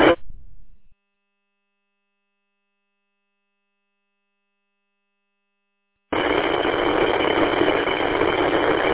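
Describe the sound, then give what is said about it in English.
A truck engine idles after a long silence, with a steady, dense rumbling drone that holds constant and fairly loud for the last few seconds, sounding slightly muffled and narrow, as the driver prepares to head down the road. “I'm about to get going down the road here with my truck here.”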